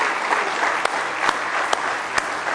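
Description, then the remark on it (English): A church audience claps together in sustained applause as a hand clap of praise for the Lord, a dense steady patter of many hands with a few sharper individual claps standing out, fairly loud throughout with no talking. “But go ahead and give him a good hand clap of praise if you love him tonight.”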